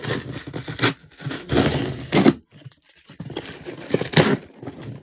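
Crinkly rustling of plastic and paper packaging being torn open and handled as a delivered Amazon order containing lotion is unboxed, in uneven bursts with brief pauses, fairly loud, with no one speaking.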